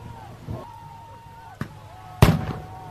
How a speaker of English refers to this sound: Those Those are presumably the concussion grenades. Mm-hmm. They launch them just over people's heads most of the time.